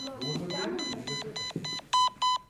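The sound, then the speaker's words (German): A fire brigade pager alarm beeps in a rapid, evenly spaced series of about ten short electronic tones, growing louder toward the end, with voices murmuring underneath during the first half. “Hörst du das Piepen?”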